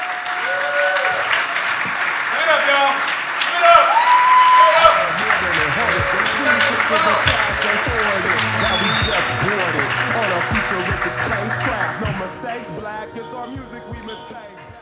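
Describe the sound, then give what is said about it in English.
Sustained audience applause welcoming a speaker at an event at the Portland Hilton. It is a dense crackle of many hands clapping steadily at a fairly loud level, with whoops and cheers mixed in, tapering off toward the end. “Please welcome Ted Rowe, Pioneer Pete. Give it up, y'all.”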